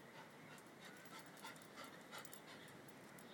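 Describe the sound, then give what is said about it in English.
A clean dog pants steadily outdoors on a cold day, quick rhythmic breaths with a soft airy rasp, continuing throughout with no talking. “Nice, clean dog.”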